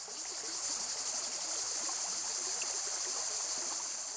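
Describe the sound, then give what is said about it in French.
A small river at Brissac flows steadily by a meadow below the school, a continuous wash of moving water, with a constant high buzz of crickets or insects layered over it and no voices. “L'accueil au panneau, dans la prairie en bas de l'école, tout près de la rivière.”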